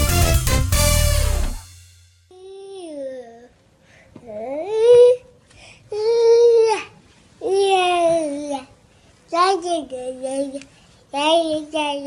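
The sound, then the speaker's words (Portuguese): A baby babbles and lets out whiny, crying-like wails in a series of separate drawn-out vocal bursts, fairly loud, after a brief loud noisy burst at the start. “Esse … é bebê de verdade”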